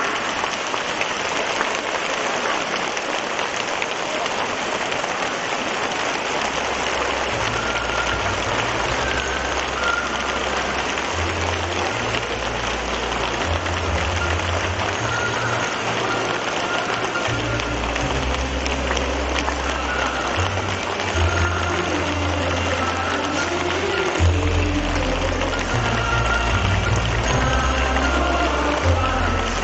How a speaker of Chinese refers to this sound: 现在让我们用最热烈的掌声恭请我们尊敬的卢军宏台长。